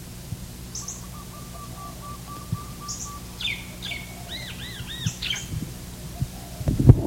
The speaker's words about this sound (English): There's also barred doves.